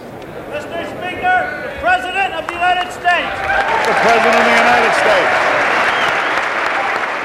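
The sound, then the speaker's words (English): Senators and representatives on the House floor give the president a standing ovation as he enters, bursting into loud, sustained applause, with voices calling and cheering at the start before the clapping swells into a dense, steady roar. “The president was all smiles as he stepped onto the House floor, greeted by a standing ovation and loud applause.”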